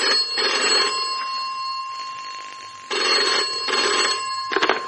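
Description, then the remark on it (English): A telephone rings loudly in repeated bursts, three distinct trilling rings separated by short pauses, with a sharp clatter at the end as if the handset is picked up. “And while I was standing there, forgetting, the phone rang.”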